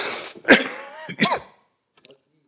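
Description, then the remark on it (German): Two harsh, throaty coughs from a person with a cold in quick succession, fairly loud, followed by a brief quiet rustle and silence. No talking. “Und sonst müsst ihr meinen Husten aushalten.”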